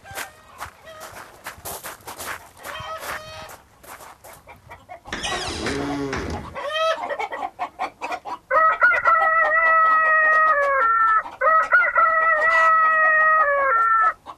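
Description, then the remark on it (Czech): Clucking and short squawks, then a burst of harsh noise, followed by two long, loud rooster crows from an automatic device, held on steady, stepped pitches with a mechanical evenness. “Sajži mi tvojego automatického kokota do kurinca.”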